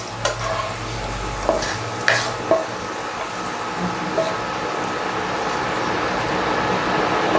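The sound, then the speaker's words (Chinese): Food sizzles steadily in hot oil in a wok as it is fried golden on both sides, a constant crackling hiss, with a few sharp scrapes and clinks of a utensil stirring early on. No one speaks. “对了，就是做成这样子，炸成两面金黄的样子。”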